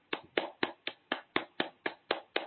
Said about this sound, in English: And so, my darlings, clapping at heart chakra.